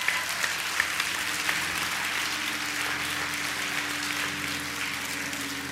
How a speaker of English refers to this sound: If you believe you received that, give the Lord a hand clap of praise. Amen.